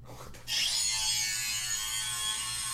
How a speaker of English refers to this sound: Is that from Spider-Man 2? That sounds like it. That sounds like somebody drilling your mouth.